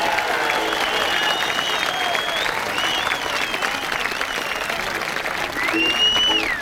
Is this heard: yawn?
no